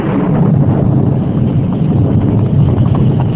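thunderstorm

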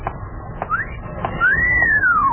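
woman whistling

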